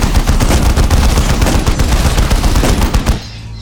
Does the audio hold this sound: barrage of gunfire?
yes